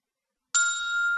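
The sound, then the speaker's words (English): After a brief silence, a telephone ringtone starts abruptly and holds as a steady, bright electronic ring, clear, with no talking. It is heard after a number is dialed and the call button is pressed. “Do you hear a ringtone?”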